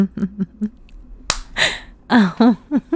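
hand slapping skin

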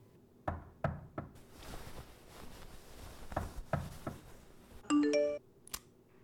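knocking on a door

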